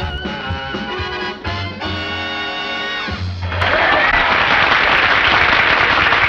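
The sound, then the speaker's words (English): A loud burst of crowd applause breaks out and continues steadily, dense, after a few seconds of sustained music playing alone. “Ponytail at the front, which he quickly lifts up as the crowd applauds.”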